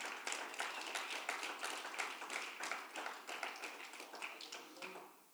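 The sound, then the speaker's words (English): A church audience applauds as a clap offering to the Lord, many hands clapping in a dense, bright, continuous patter that holds level for several seconds before tapering off at the end. “So give the Lord a clap offering for them.”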